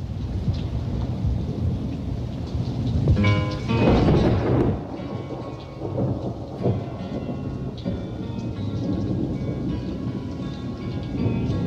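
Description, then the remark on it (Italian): A steady thunderstorm: continuous rain hisses and patters throughout while thunder rumbles low, swelling into a loud, crackling peal a few seconds in before rolling off. No voices. “Qui intanto è scoppiato un temporale.”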